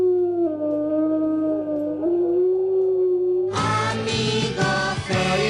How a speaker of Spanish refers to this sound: Que el lobo viva donde pueda y donde deba vivir, para que en las noches españolas no dejen de escucharse los hermosos aullidos del lobo.